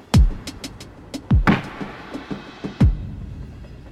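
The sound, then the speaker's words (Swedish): A train rolls along the rails, with three heavy, low clunks spaced irregularly and lighter metallic clicks and rattles between them over a steady rumble. No one speaks. “Istället sätter han sig på ett tåg och åker nästan 50 mil från Västsverige till Uppsala.”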